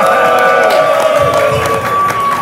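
audience cheering and clapping

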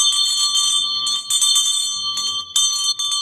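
hand bell ringing

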